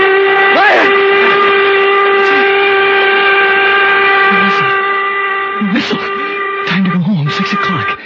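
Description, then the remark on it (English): A loud steam whistle blows in one long, unbroken blast with a rich, steady tone throughout, while faint voices briefly rise beneath it near the start and end. “Slept right through, and the whistle woke me up.”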